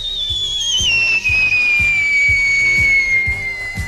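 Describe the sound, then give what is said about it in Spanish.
A person whistles with the mouth a long, steadily falling tone imitating a firework rocket, as done at parties with friends, sustained for several seconds over a soft, regular low thumping beat in the background. “Yo el talento que tengo es que tiro cohetes ecológicos.”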